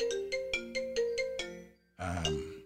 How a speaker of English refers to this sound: You hear that phone ringing in the background? That's my son, Will, of the University of Toronto. And I'm just going to let it ring out, and I will call him there.